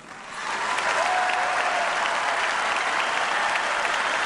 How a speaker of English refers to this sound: And down on the floor where I was, the crowd just leapt up to its feet and starts yelling, "Yes, we can," for about 2 minutes. Of course, that's the Obama refrain. I mean, they were just so delighted to hear that.